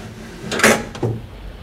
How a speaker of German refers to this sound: Schieb das Fenster hoch. Ja.